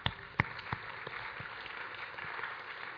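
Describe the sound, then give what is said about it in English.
A room full of people applauding: steady dense clapping with a few sharper claps near the start, sustained at a moderate level throughout with no talking. “Yeah, that's clap-worthy.”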